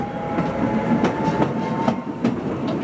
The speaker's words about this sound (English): The mine is highly mechanized, with miners traveling aboard small electric rail cars known as Jeeps.